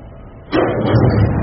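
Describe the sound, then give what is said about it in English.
An oil lamp is knocked over by children playing Monopoly: after a quiet moment, a sudden loud thud hits, followed by a sustained rattling, rumbling noise that lingers. “The kids playing Monopoly have knocked over the oil lamp.”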